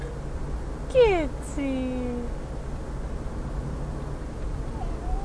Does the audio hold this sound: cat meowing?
yes